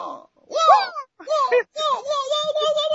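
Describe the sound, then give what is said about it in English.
A voice imitates the sound effect of Liu Kang's bicycle kick from a video game: loud, strained vocal bursts that swoop up and down in pitch, with short gaps between three effortful cries. “What do they call that move they did when like he jump and kick at you? The bicycle kick?”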